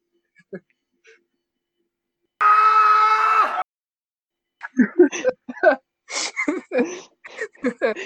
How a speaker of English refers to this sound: I'm gonna edit this out, but I need to blow my nose.